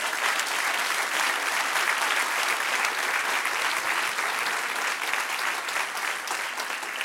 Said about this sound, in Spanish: Dar un aplauso. Alábale.